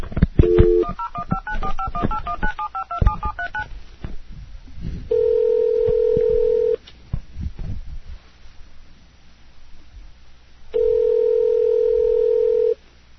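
A rapid string of telephone keypad beeps dials a number, followed by two long, steady ringing tones separated by a few seconds of quiet line hiss, with no one speaking.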